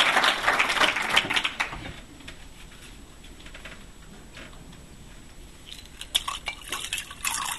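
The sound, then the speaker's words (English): Water pours into a glass, a bright splashing burst for about two seconds, then quiet with a few light clinks and knocks near the end. “Water ready.”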